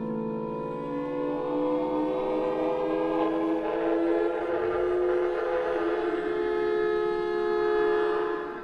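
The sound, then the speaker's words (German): An air raid siren wails steadily and loudly over the rooftops of Nuremberg at 6:33 pm, sounding for the fourth time that day as the signal to seek shelter in the nearest bunker. A sustained, droning tone holds for several seconds with only slight shifts in pitch, heard alone without any voices. “Um 18.33 Uhr heult der Fliegeralarm über den Dächern Nürnbergs.”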